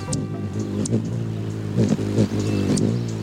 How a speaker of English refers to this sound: This whirr of wings must mean the hummingbirds are back.